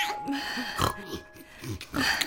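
piglet grunting

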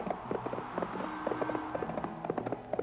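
horse hooves clip-clopping

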